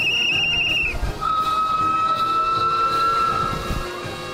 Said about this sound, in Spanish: 200 locomotoras de vapor y diésel, no podía ser otra la cifra, hicieron sonar sus silbatos a mediodía en distintos puntos del país. Fue la señal para que comenzara la celebración del bicentenario del ferrocarril en el mundo.